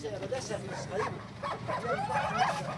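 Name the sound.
dogs barking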